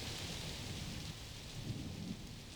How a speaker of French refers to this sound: La pluie, dans la cour où je la regarde tomber, descend à des allures très diverses.